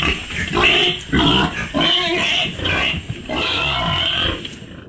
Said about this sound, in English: Okay. I want to say like a wild hog. Ooh, a wild does hog. Does sound very pig-like. Oh. Yeah. You know what? I'm going to give that to you. Yeah, I just have pigs down. So, yeah, I'm going to say wild hog is right.